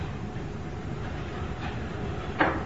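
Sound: door being closed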